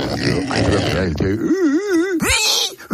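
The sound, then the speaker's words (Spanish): A man's voice on the radio imitates a pig having its throat cut, with rough grunting noises giving way to a high, wavering wail that rises and falls in pitch, ending in a sharp shriek. “O sea, tú te imaginas a tu padre, a tu madre, a tus abuelos, escuchar a su nieto hacer el cerdo mientras lo están degollando en la radio.”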